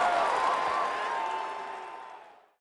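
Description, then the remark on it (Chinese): A burst of clapping and cheering from a crowd, played to open a reading of the storybook 'Grandpa Black Bear Forgot', loud at first and then steadily fading away over a couple of seconds, with a faint tonal whistle-like sound woven through it. “故事开门，请掌声，咕哩咕哩咕哩咕哩。”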